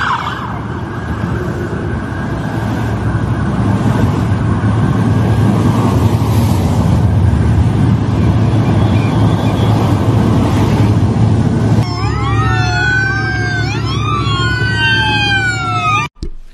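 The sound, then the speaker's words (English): A steady rumble of heavy traffic and engines, then from about twelve seconds many overlapping wailing sirens sweep up and down together, loud, as a procession of 40 or more police cars passes escorting an oil tanker marked racetrack in Florida. “So we've got, I don't know, I'm going to say 40 or more police cars escorting an oil tanker in Florida that says racetrack on the side.”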